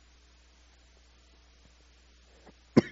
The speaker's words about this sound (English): Goodness. This cough came on all of a sudden.